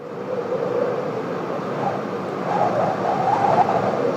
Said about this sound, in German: Das ist der Windhauch von Elia, in dem Gott kommt. Ja, es kommt jetzt vielleicht als Hauchen rüber, aber die Aufnahme selber ist ein tosender Sturm.